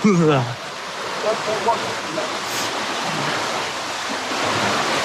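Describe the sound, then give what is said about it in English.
Turbulent water surges and bubbles up from underneath in a steady, full roar that swells slightly toward the end, with a brief voice heard at the very start. “It's a lot of water and a lot of turbulence.”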